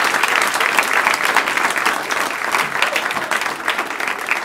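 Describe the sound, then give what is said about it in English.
Sustained audience applause for Matt Pershing, a dense wash of many hands clapping at a steady, fairly loud level throughout with no speech over it. “Keep it going for Matt Pershing.”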